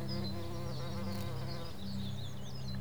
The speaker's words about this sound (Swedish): Och du hör humlor som surrar.